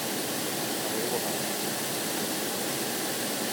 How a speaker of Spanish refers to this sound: Este es el agua del Madrid Río a las no sé qué horas de la noche, que hay gente en bicicleta, ¿eh?